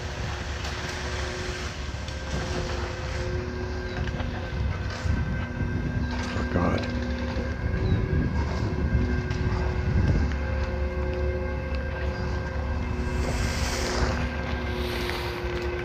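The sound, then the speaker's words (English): A cement mixing truck's engine drones with a steady, low-pitched whine and faint humming overtones, running continuously over a rough rumble and gusts of wind noise, growing a bit louder midway, while workers fill a wheelbarrow from it and dump it. “There's that low-pitched whining sound. It's a cement truck, mixing truck.”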